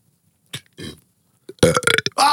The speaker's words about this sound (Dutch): Oké, zullen we nog even een boerwedstrijdje? En daarna ben ik weer serieus.